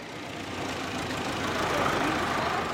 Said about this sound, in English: A large truck arrives bringing clean water for refugees.